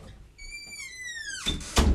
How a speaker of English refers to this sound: Just had to close the door.